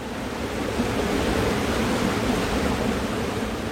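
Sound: flowing river water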